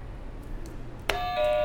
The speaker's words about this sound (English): Awesome job. You finished the alphabet. Can you hit a buzzer for me?